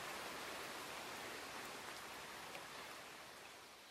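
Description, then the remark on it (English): Heavy rain pours down in a forest with a dense, steady hiss, blended with the rush of a fast-flowing river; the roar stays constant and eases slightly at the end, with no voices. “And then the bridge collapses under the weight of the rain, detritus tumbling into the rushing river below.”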